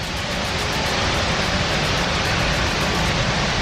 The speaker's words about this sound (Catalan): Així sona l'aigua que surt per la comporta de la paret de la presa d'aquest pantà a la comarca de la Selva.